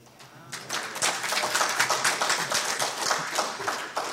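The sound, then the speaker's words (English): A crowd claps steadily for about four seconds, a dense patter of many hands with no voices over it, holding at moderate loudness throughout. “I didn't do anything to deserve that applause.”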